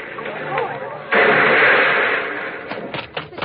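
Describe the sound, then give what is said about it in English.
A car with failed brakes, going fast down a steep driveway, crashes into a tree: after a moment of wavering mechanical noise, a sudden loud, harsh smash erupts and roars for about a second, then fades into scattered rattles and clatters. “The tree stopped him.”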